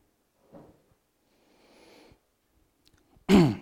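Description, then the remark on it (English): Wooden boards of a platform creak underfoot: a short creak, a soft scuffing shuffle, then a loud, sharp groaning squeak, with no talking. “And I'm going to just take a couple of passages, if I can get off a squeaky bit of the platform here.”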